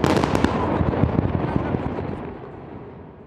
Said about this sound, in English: They had three tunnels that were still remaining at the site, and they blew them up. These were major explosions.